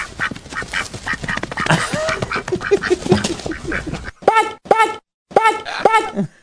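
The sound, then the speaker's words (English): A flock of geese honks in a front yard in a dense, overlapping clamor, then three loud, separate honks ring out with short pauses between them. “It's a herd of geese, Tom. Get the shotgun. There's geese in the front yard.”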